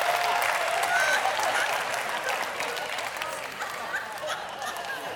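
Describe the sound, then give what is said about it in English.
Sustained audience applause for a dog shown on a slide, a dense crackle of many hands clapping at steady loudness throughout, with faint murmurs and a few brief whistle-like tones mixed in. “Come on, give it up for that dog.”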